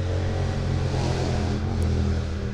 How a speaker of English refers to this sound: Loud traffic continues to zip by on the interstate.